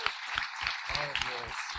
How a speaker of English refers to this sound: We say together, amen and amen. One more time, give God a hand clap. Yes.